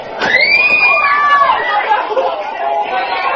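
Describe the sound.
Several people scream in high, piercing voices over a busy crowd's chatter, one long wavering shriek standing out early before the noise settles into excited babble and shouting.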